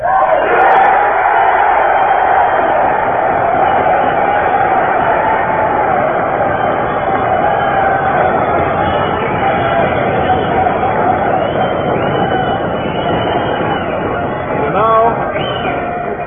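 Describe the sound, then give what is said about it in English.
A dinner crowd at the opening of a national campaign applauds and cheers steadily and loudly for the whole stretch, a dense wash of clapping mixed with shouts and whoops and no single voice standing out. “And I'm very happy in your applause and very happy at the informality of this dinner with old friends of mine.”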